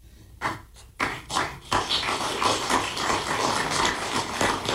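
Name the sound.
audience clapping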